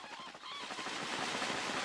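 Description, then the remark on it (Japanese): A dense chorus of honking birds, like a large flock of geese calling over one another, steady and fairly loud with no talking; a flock of white birds flying up into the sky. “あれよなんや、白い鳥じゃ。餅が白い鳥になって飛んでゆくわ。”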